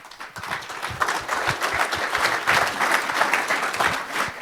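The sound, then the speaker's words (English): An audience at an event breaks into warm, steady applause for the C3 VOC, who are recording and live streaming the program, many hands clapping at once in a dense, continuous patter that stays fairly even in loudness for several seconds. “Warm applause for them.”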